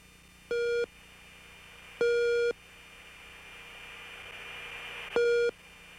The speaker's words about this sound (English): All right, so we got some tones there. What are those? Those are raw gear, RWR, radar warning receiver tones. It's very interesting. I was in aircraft 410 that day.